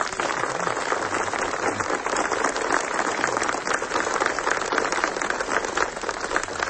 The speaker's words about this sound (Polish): Tobie oddajemy głos i nasze serca. Wielkie brawa.